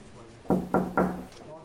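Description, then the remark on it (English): Three firm knocks on a wooden door in quick, even succession, fairly loud against quiet surroundings. “Come in. Close the door behind you.”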